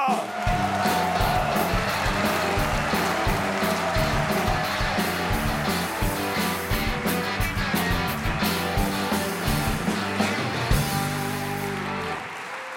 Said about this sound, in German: Wir begrüßen ihn mit einem frenetischen Applaus. Sie kennen ihn alle, Christoph Sieber!